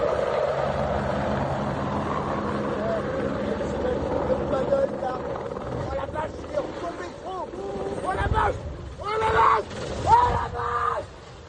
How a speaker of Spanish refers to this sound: Es un helicóptero que cae estrepitosamente en una laguna de Rosporden, en Francia, en Bretaña, mientras intentaba recoger agua para combatir los incendios de la zona.